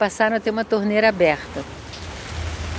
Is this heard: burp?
no